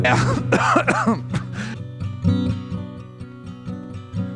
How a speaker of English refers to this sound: The coughs, they often come without warning. I make these sounds like I am dying. And at my age, the coughing makes me hurt.